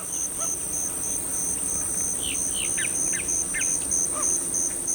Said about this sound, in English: A bayou in the south, where cypress trees draped with Spanish moss rise from still, dark water.